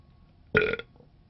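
A single short, loud burp erupts close up, a brief guttural croak lasting about a quarter second against an otherwise quiet background.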